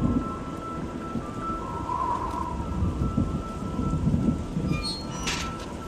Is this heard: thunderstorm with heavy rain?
yes